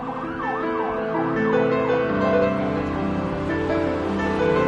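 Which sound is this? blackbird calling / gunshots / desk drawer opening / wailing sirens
wailing sirens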